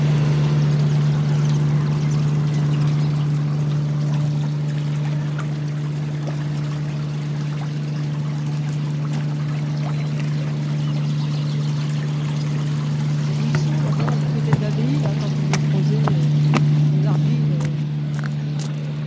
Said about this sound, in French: On est devant l'église, là où ils sont en train de construire tout un ruisseau. On entend à la fois les travaux et l'eau.